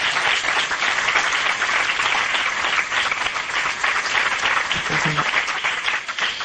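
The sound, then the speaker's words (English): Sustained applause from an audience for Governor Rendell after his keynote address, a dense, steady patter of many hands clapping at an even loudness for several seconds, with a faint voice surfacing briefly near the end. “I think we should give the governor another round of applause for his leadership and his vision.”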